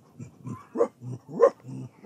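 A thirsty little dog pants in quick, rhythmic breaths with its tongue hanging out, with two louder, higher whimpering whines rising out of the steady huffing. No one speaks.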